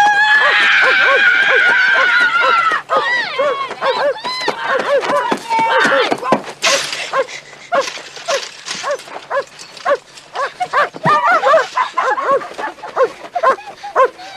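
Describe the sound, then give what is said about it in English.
A dog named Chopper barks loudly and repeatedly in fast, overlapping bursts as it is set on a fleeing boy, with high whining yelps and rougher growling sounds mixed in, and voices shouting commands like "sick him, boy" underneath throughout. “God damn it, I'll stick my dog on you.”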